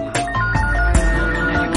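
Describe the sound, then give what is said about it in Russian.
A melodic phone ringtone plays loudly over a steady electronic beat, its bright synth notes repeating while punchy drum hits land roughly every half second, with no one talking. “И где бы я ни буду, каждый день одно и то же звонит мама.”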